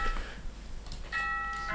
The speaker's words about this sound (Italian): Allora, adesso campanello per ricordare i compiti a casa per gli ascoltatori.